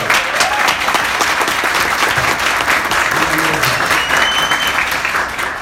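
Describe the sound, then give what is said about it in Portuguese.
A crowd applauds steadily and loudly for several seconds, a dense wash of many hands clapping at once with no single beat standing out, and a few faint voices mixed in. “Então eu quero uma forte salva de palmas para todos vocês.”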